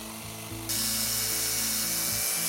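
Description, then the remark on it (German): A power drill whirs steadily with a mechanical, ratcheting buzz, growing louder and brighter partway through as a thick drill bit bores a large hole into the middle of a carrot, with no talking. “So, und in die Mitte von der Karotte ein großes Loch bohren mit dem dicken Bohrer.”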